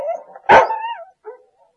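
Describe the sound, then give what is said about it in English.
A dog lets out one sharp bark that trails into a whiny, tonal tail, followed a moment later by a softer, short yip. No voices. “These firemen can't find people. These dogs help them.”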